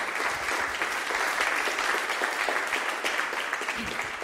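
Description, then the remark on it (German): Steady applause from an audience, a dense, even patter of many hands clapping at a constant level for several seconds without any voices over it. “Vielleicht zum Abschluss, bevor ich noch ein, zwei andere Sachen sage, auch einen Beifall für Sie”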